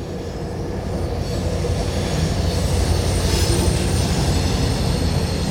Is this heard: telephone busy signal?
no